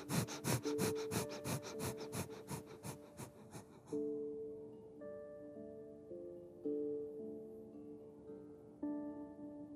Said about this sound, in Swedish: Och så sträcker du upp armarna rätt upp i 60 graders vinkel. Handflatorna tittar mot varandra. Ögonen är slutna. Fokus i tredje ögat. Och så börjar du att eldandas.